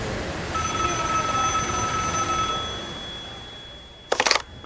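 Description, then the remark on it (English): A phone rings with an incoming call, a steady electronic tone for about two seconds, then, after a pause, a short, loud, rattling burst like a bell trill, with no one speaking. “She's calling me now. I need to find somewhere quiet to answer this phone.”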